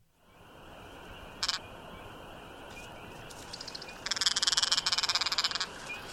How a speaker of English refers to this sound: Same species. Oh, yeah. Woodcock. I was going to be the paint. So disappointed if you missed that one. Was that first one a woodcock? Yeah. Really? Yeah. I was going to say teal.